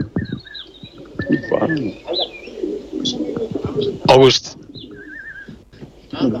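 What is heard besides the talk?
pigeons cooing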